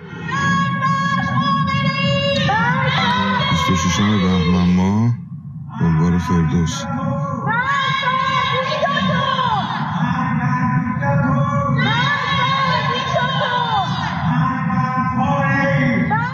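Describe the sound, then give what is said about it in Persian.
Many voices of citizens shout a rhythmic slogan together against the leader of the Islamic Republic from house windows and rooftops at night, in long, sustained bursts, loud and continuous, with a brief pause partway through before the chanting resumes. “پس از سرکوب‌های شدید در این دو روز اعتراضات فروکش کرد، اما در روزهای اخیر شهروندان شب‌ها از پنجره خانه‌ها و پشت بام‌ها علیه رهبر جمهوری اسلامی شعار سر دادند.”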